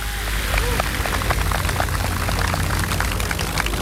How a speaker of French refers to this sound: Mise en route de l'avion électrique sans autre bruit que celui de l'hélice. Décollage sous les applaudissements.